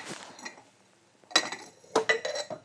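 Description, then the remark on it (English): Drinking glasses clink and knock together while a glass of water is fetched to take to the bedroom, a brief rattle at first, then two sharper bursts with bright, ringing tones that hang for a moment. No one speaks. “we always have a glass of water so he can. Here we go. Oops. Before I break them all.”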